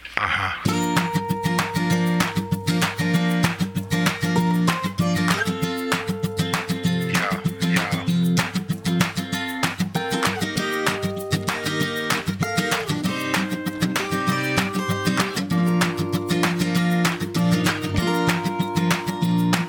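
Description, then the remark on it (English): A catchy pop song plays steadily and loudly, with a driving beat, bright instrumentation and sustained chords filling the whole stretch without pause. “And I'm going to play that song right now.”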